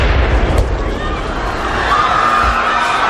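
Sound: bomb explosion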